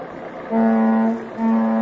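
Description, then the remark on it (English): An old big touring car with gas headlamps, out for a spin with a father and mother on a very dusty country road on a Sunday afternoon, drones with a steady, buzzing hum that swells in twice over a rough background rumble, fairly loud, with no one talking. “Father and mother out for a spin in their big touring car, complete with gas, headlamps, and everything.”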